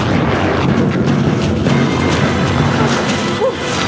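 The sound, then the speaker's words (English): A torpedo explosion: a loud, dense rumbling roar that holds steady for about four seconds, thick with low crackling energy, easing slightly near the end. “Fire torpedo!”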